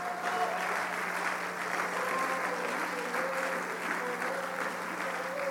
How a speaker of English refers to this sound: Somebody needs to clap their hands right now. I need somebody to worship him and receive that right now. Somebody clap their hands unto the Lord right now and give God praise.